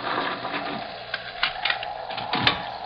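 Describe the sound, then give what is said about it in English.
Heavy door bars are drawn back to unbar the doors, a run of metallic clunks and scrapes with a few sharp knocks, fairly loud against a low background hum. “One moment, gentlemen. I'll unbar the doors.”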